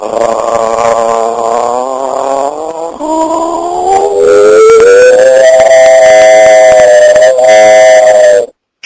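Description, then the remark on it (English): A voice imitates a train whistle by opening the mouth and gargling, then adding a falsetto: a loud, sustained wailing tone that starts low and slides upward in pitch, holding steady for several seconds before cutting off abruptly. “What you'll hear are the steps for the train whistle, opening the mouth and a gargle.”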